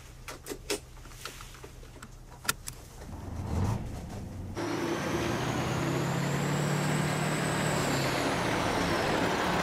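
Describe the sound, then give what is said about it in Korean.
A bus starts up and pulls away, its engine rising into a steady rumble after a few sharp hisses and clanks; an air-brake release fits the bursts. No one speaks. “자, 버스 출발합니다. 안전벨트 매세요.”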